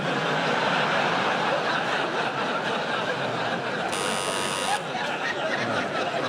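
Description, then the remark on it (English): A quiz show buzzer rings out once as a contestant buzzes in, a harsh electronic tone lasting about a second, cutting through a steady wash of audience laughter and murmuring. “I should warn you, you can't buzz in just because you've heard it before.”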